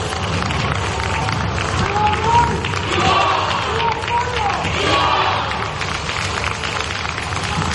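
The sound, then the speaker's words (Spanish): A large crowd of gathered citizens cheers and applauds the king as he is received at the Congress, a dense roar of clapping mixed with shouts and raised voices, holding at a loud, even level from start to finish. “El rey ayer era recibido en el Congreso entre vítores y aplausos de los ciudadanos que estaban allí congregados.”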